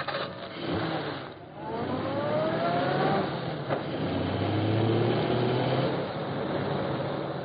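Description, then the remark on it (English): A car engine revs and accelerates as the car sets off after another passing car on a highway, its pitch climbing in rising sweeps as it speeds up, loud, with a steady roar continuing throughout and no voices. “Hey, look, that's the car we're waiting for. Ready to start after him as soon as he passes.”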